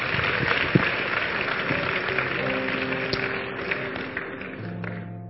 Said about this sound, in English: But God is going to help us in this conference. Keep clapping for the Lord.